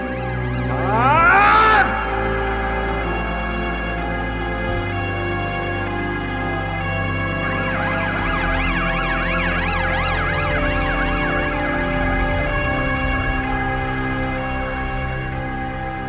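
Approaching police sirens wail over a steady low rumble, starting with a loud rising sweep and shifting midway into a fast, high warbling yelp that keeps cycling up and down.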